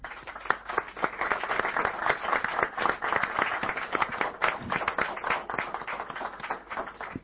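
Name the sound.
audience applause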